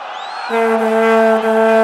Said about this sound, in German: Bei dieser Weltmeisterschaft machen die Vuvuzelas den meisten Lärm.